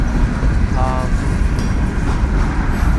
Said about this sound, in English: So, you know what else sucks is the length of this train sucks. This is a long, long, long, long fucking train.